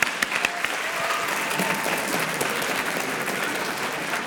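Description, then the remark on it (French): An audience applauds the young participants steadily, a dense wash of many hands clapping at an even, moderate loudness for several seconds with a few sharper individual claps at the start. No voices are heard. “On va applaudir déjà nos petits participants.”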